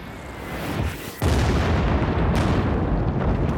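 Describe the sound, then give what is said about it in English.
Continuous heavy rumbling bombardment by 48 B-52 bombers dropping some 2,400 tons of bombs over Cambodia on the night of March 18, dense overlapping low booms and blasts that swell, dip briefly, then surge back louder and sustain without pause. No voices. “The bombers drop a payload of some 2,400 tons.”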